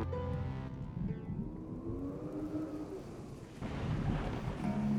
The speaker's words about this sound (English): Well, I see you've brought the rain with you.